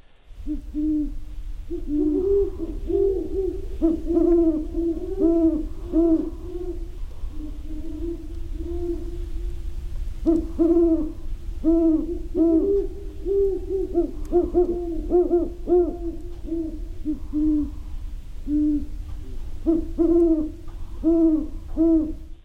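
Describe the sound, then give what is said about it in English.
Wild great horned owls, recorded right outside a bedroom window, hoot back and forth in deep, repeated calls, steady throughout, their overlapping hoots forming a low rhythmic chorus with no talking. “Yeah, that was actually great horned owls, and it's a recording of some right outside my bedroom window from a few weeks ago.”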